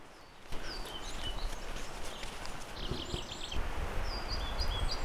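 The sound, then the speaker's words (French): Pied flycatcher singing in a forest in short, high, repeated phrases, over a steady outdoor hiss with soft low thuds like footsteps. “On entend le gobe-mouche noir grâce à l'application Merlin Bird, qui est effectivement beaucoup plus intéressante que BirdNet.”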